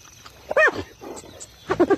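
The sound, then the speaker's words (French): Hyenas cackle at night: a loud, rising-and-falling whooping call, a brief lull, then a quick burst of high, giggling yelps in rapid succession. “On les entend ricaner.”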